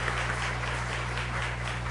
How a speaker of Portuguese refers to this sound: Uma salva de palmas aí para São Vicente Paulo, aí, Asilo dos Velhinhos.